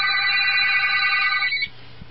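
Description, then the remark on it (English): A telephone rings with a loud, steady electronic trill for about a second and a half, then cuts off, leaving faint background hum. No one speaks. “Answer that. That might be the phone.”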